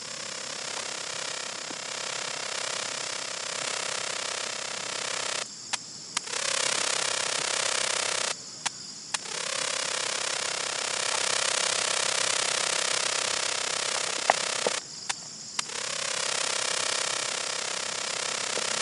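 A short-winged meadow cricket, recorded in the Hudson Valley, chirps in a dry, steady buzzing trill, held for several seconds at a time and broken by three brief pauses, with no one talking.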